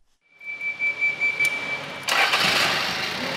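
A forklift engine starts and revs with a steady high whine, then surges louder into a broad, rough roar partway through, close by with no one speaking.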